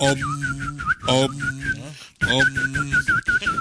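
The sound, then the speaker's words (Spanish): A person whistles an imitation of birdsong, slightly out of tune, with quick repeated chirping warbles and trills at a high pitch, fairly loud, over a low, rumbling background of voices and noise. “Ruido de pájaros, tío.”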